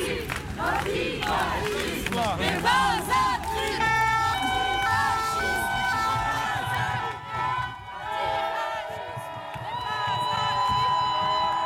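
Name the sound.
crowd shouting and cheering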